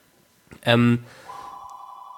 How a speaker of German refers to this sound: Da ist das weltberühmte. Das Telefon mal wieder. Das Flippofon. Ignorieren wir das einfach mal wieder.